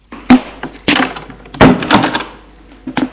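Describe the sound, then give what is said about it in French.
A door swings shut with a few solid wooden thunks and knocks, the impacts spread over a few seconds with light rattling between them. “Elle ferme la porte.”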